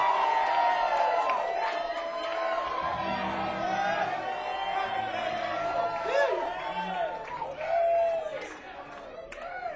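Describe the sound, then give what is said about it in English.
A large live concert audience screams and cheers continuously on request during a show being recorded and streamed live, a dense roar of many voices with high whoops and shrieks rising above it, loud and sustained throughout. “So I want everyone to fucking scream because you're on the fucking internet live right now.”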